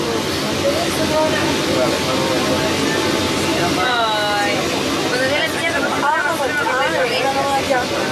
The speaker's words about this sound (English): Viaje por la línea 1 del metro, Santiago de Chile.